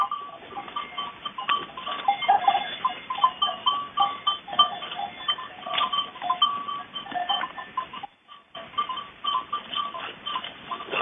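A herd of goats and ewes in the hills bleat continuously, many overlapping calls, with faint clinking bells and a brief pause near the end; no one speaks.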